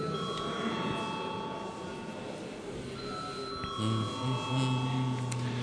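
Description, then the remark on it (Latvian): A parliament chamber bell rings as a steady, continuous electric tone for several seconds, holding a bright, even pitch over a low murmur of voices in the hall, before a first-reading vote on amendments to the law on private pension funds. “Lūdzu zvanu.”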